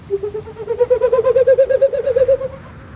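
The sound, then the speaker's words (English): A bird coos in one sustained, throaty warble lasting a couple of seconds, pulsing rapidly and rising slightly in pitch. It is fairly loud, with no voices. “That's all you got for me, Bird?”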